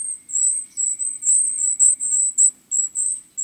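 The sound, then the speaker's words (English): Thin, silvery calls of a golden-crowned kinglet, a bird weighing about 6 grams, coming from a forest: a rapid string of about a dozen very high-pitched, short notes, fairly steady in loudness, with no voices. “These thin, silvery calls coming from the forest belong to a survivor, the golden-crowned kinglet.”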